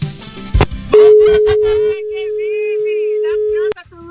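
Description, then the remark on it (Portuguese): A steady electronic telephone tone rings for nearly three seconds, loud, with a voice speaking over and around it, at six minutes to 5 a.m. “O telefone tá tocando, meu Deus do céu. O telefone tá tocando.”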